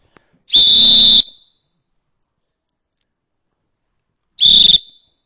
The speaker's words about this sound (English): Let's blow the whistle again. What's it going to do? I brought another whistle here. Let me blow it a minute.